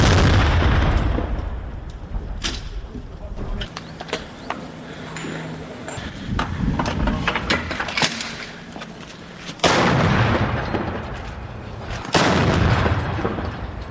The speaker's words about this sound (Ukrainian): Постріл!